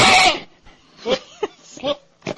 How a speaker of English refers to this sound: It's called Goat Yelling Like a Man, and it has 4 million hits.